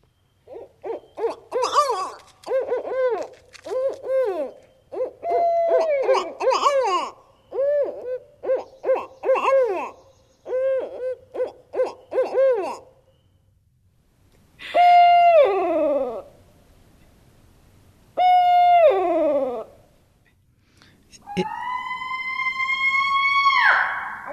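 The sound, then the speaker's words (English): Barred owl calls, starting with a rapid run of rhythmic hoots, then long wailing, squalling cries that rise and fall, loud with short pauses between bursts. “Someone asked him whether he had lost his monkey, which gets to the fact that you've got growling and howling and squalling and snarling all sort of in the barred owl call.”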